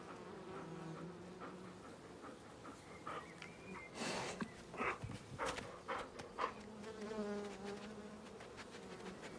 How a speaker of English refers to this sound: He sees sunlight beaming through trees, a row of wooden beehives in a quiet yard, and a quaint log cabin. He steps out and crosses the yard, sniffing at the bees as they buzz around the hives.